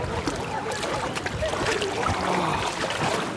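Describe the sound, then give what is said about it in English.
Steady watery sloshing and splashing as a person in swim trunks with a yellow float wades into the River Seine, with a continuous rushing background and small irregular splashes throughout. “Going into the River Seine of my own free will.”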